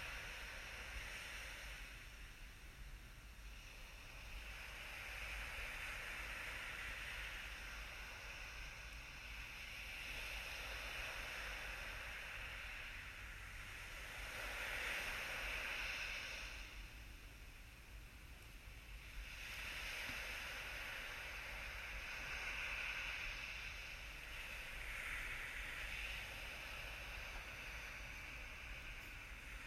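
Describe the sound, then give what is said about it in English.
Ocean waves wash gently onto a shore in slow, rolling surges, each swell rising and fading every several seconds in a steady, continuous hiss with no voices. “If you find your mind getting distracted with other thoughts, come back to paying attention to your breath and the sounds of the waves lapping the shore.”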